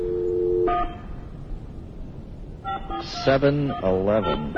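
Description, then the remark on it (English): Telephone dialing beeps as a call is placed: a steady low electronic tone, then a few short higher beeps with a ringing echo. Voices start talking over the last of them. “Boy, you hear the echo on those beeps?”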